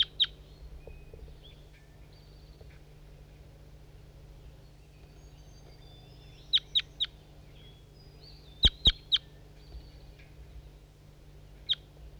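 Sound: bird calling loudly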